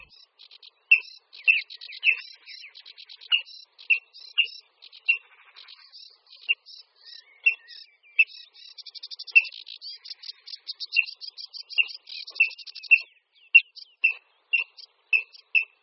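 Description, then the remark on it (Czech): Male water rails calling while occupying their breeding territories: clear, sharp, high-pitched notes repeated roughly once a second, mixed with quick buzzy trills, continuing steadily for about sixteen seconds with no talking. “Přitom se ozývají různými hlasy, například jasnými, ostrými zvuky.”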